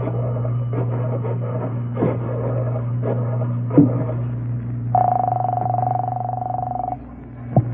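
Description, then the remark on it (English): A telephone in a candy store being dialed: bursts of rapid mechanical clicking with a few sharper clunks, then a steady ringing tone lasting about two seconds, all over a low constant hum. “There's a phone in the candy store here. I'll call him from there.”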